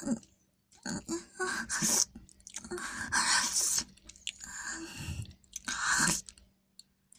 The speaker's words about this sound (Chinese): 啊，您看，齿垢都在我的嘴里，被我好好嚼过了。还要继续品尝吗？啊，是，我再咀嚼一下齿垢。